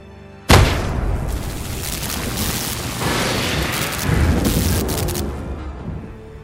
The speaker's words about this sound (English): Thor slams his hammer to make thunder.